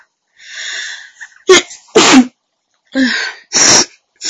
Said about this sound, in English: Been sneezing all day.